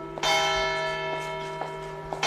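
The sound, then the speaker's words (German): The bells of a church in a small French town called Seyrat ring out with a rich, sustained harmonic tone, one strong strike followed by several lighter repeated strokes that hum on steadily, with no voices. “Das hier sind die Glocken einer Kirche in einem französischen Städtchen namens Seyrat.”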